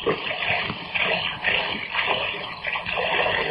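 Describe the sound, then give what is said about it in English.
Water pours steadily into a drinking glass in a small kitchen for a few seconds, a continuous, fairly loud splashing rush with slight surges and no voices. “I better be getting out of here after I get a drink.”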